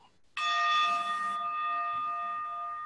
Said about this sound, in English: There'll be the bell in just a moment.